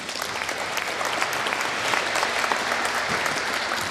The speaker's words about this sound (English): And I'm happy he's here. Please give a big applause for Harry Halpin.